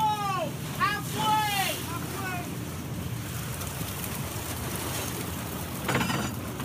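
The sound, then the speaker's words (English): On the fishing boat Commodore, water is pumped in to flush flopping pollock from the net into the boat's hold; it rushes steadily over a low engine rumble, with a few high, squealing cries early on and again near the end. “Then they pump in water to flush the flopping fish out into the boat's hold.”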